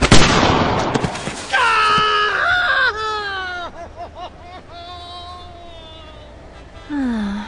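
A loud, sharp gunshot bursts out at the start, shooting a man's toe off, followed by a voice wailing and moaning in drawn-out, wavering cries that trail off into a low groan.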